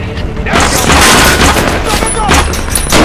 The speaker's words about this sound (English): Harper reloads. He joins Enzo in returning fire toward the rooftop.